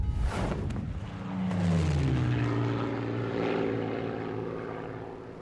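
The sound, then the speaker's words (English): A propeller airplane, flying across the Atlantic from South America to Dakar on a single tank of fuel, roars past, its droning engine pitch sliding lower as it passes and fades slightly; no voices. “So they had to try and get this plane across the Atlantic all the way to Dakar on a single tank of fuel.”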